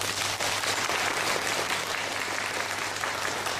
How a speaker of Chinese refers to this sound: 今日好高興，松賢學院同埋寶國中學請到法師由加拿大翻嚟香港為我哋主講。今次嘅機會實在難能可貴，請各位鼓掌。